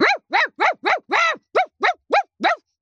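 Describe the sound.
A person imitates a small dog, like a small fashionable breed such as a poodle, barking aggressively: nine sharp, yappy barks in a quick, steady, loud string, with one slightly longer bark in the middle and no other talking.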